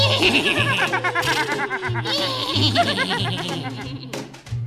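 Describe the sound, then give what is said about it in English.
Several voices imitate a horse's whinny together, a quavering, high-pitched neighing that wobbles up and down for several seconds over a low, steady humming tone, fading out in a breathy snort. “Let's make the sound of a horse, the beautiful sound of a horse.”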